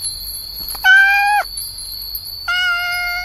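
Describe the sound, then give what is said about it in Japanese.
A cat meows twice, a longer drawn-out meow followed by a second one after a short pause, heard clear over a steady high-pitched background tone. “猫だ。”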